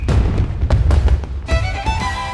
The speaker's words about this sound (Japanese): 2025年、名古屋港が絢爛豪華な花火で覆われる。